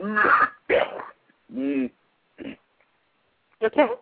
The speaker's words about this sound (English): I'm just coughing.